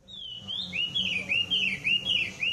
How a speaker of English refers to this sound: feeds the caged birds he keeps in his garden.